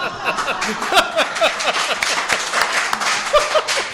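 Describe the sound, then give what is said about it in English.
A crowd applauds a remark by Wilmington City Councilman Kevin O'Grady: dense clapping mixed with scattered jeering laughter and chuckles from the opposition, steady and fairly loud throughout. “That remark by Wilmington City Councilman Kevin O'Grady brought a round of applause along with jeering laughter from the opposition.”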